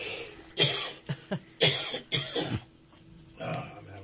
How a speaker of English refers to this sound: Let me get a cough drop here and see if I can get this thing to stop. As soon as we get to some important news here, what's happening is all of a sudden I'm having a coughing fit here.